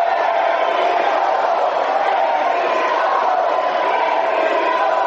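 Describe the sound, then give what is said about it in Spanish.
A large crowd roars continuously during a speech by President Iván Duque, a dense wash of booing and clapping that stays loud and steady for the whole stretch, with no clear individual voices standing out. “En medio de abucheos y aplausos, el presidente Iván Duque continuó con su discurso para dar un balance de lo que ha sido la atención a los jóvenes durante sus 4 años de gobierno.”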